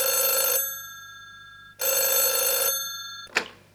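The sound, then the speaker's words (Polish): A telephone bell rings twice in long, bright electronic bursts, each followed by a pause, then a short click like the receiver being picked up. Clear, with no voices. The telephone is ringing in a home. “Niedługo po wizycie w biurze prezesa radia w domu Agnieszki zadzwonił telefon.”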